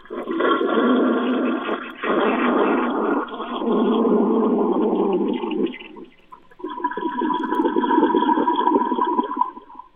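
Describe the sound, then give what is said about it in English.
A toilet flushes loudly, heard through a phone held right up to it: a rushing, gurgling surge of water that dips briefly around the middle before a second swirling wave refills, with no talking over it. “Hold the phone right up to the toilet so we can hear it loud and clear.”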